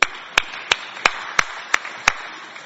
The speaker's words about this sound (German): Großartig, dein Mut, wirklich, dass du dich traust, alleine aufzustehen. Das finde ich, verdient mal einen kurzen Applaus.